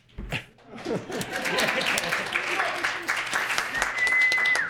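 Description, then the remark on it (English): An audience at a Second Tuesday Cafe panel event breaks into applause after a brief moment of voices, the clapping swelling quickly into a steady, dense wash of many hands that holds strong to the end. “depending on your applause, he may or may not stay.”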